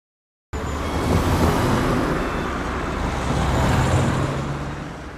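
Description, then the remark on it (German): Steady, dense roar of heavy traffic on Bundesstraße 256, the main road called Kaiserstraße in Waldbröl, with vehicles rumbling past continuously and a broad wash of engine and tyre noise, loud, with no talking. “Viel Verkehr. Auf der Bundesstraße 256, die in Waldbröl Kaiserstraße heißt.”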